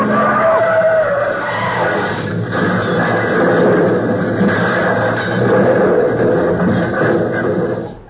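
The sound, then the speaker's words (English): Two cars weaving down a street after midnight crash: a loud, continuous roar of screeching, skidding tires and grinding car noise runs for about eight seconds, with a brief high squeal near the start and no clear single impact. “Look, look at those two cars weaving down the street. Oh, they're going to crash.”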